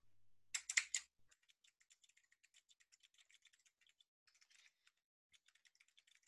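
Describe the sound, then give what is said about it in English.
Rapid computer keyboard typing, clear, with many quick light clicks in irregular bursts after a louder initial clatter; no voices. “The sound of me typing to Jimmy, the last thing that I heard.”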